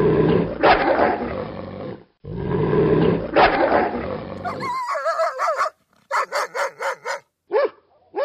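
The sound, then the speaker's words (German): Dogs growl in two long, rough, rumbling snarls, then break into a quick run of sharp, higher-pitched barks and yelps, loud and with no talking. “Da bellen und knurren, winseln und hecheln sie.”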